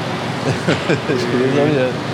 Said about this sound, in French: C'est quoi le bruit qu'on entend? C'est le tracteur, là? Oui, c'est le ventilation. Oui, c'est le tracteur.